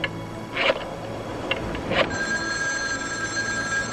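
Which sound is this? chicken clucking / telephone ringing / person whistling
telephone ringing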